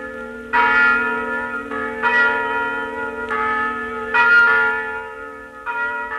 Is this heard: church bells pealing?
yes